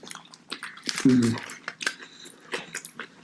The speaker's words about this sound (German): Ja, ich bin ja mal gespannt, wie man nachher die Schmatzgeräusche dann hören wird.